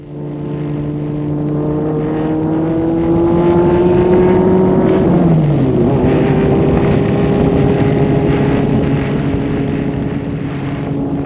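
car driving away

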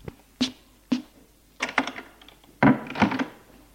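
door being closed

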